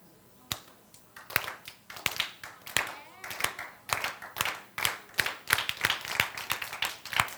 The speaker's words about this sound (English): All right. The slow clap.